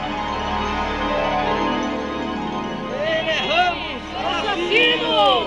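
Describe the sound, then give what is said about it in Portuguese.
A crowd in the street murmurs in a steady, dense babble of overlapping voices, with a few louder, more distinct voices rising above the hubbub in the second half. “Quando o delegado Calado chegou, havia uma multidão aqui na rua.”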